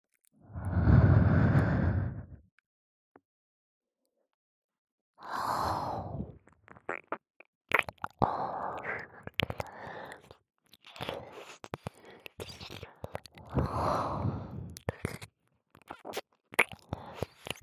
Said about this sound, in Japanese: ほら、私の温かい吐息、脳内に流し込んであげます。